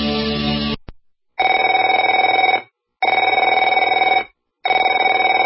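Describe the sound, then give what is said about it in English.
A telephone rings in loud, evenly spaced bursts, three full trilling rings of about a second each separated by short silences, preceded by a brief burst of a different sound. No one speaks. “Afraid to answer it? Afraid to answer your door?”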